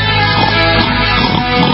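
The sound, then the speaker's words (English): A voice imitates a pot-bellied pig's oinking, a steady, fairly loud run of nasal grunting sounds lasting under two seconds with no other speech. “We got the pigs, the pot-bellied pigs coming on.”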